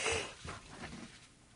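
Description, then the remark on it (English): Quiet breathy huffs: a sharp intake of breath followed by a couple of short, stifled bursts of a held-back sneeze, with no talking. “Whew. Almost had a sneeze there, sorry.”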